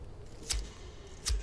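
A rolling paper is slid out of its pack to roll a joint, heard as two quick, crisp papery rustles about a second apart, fairly soft, with nothing else around them.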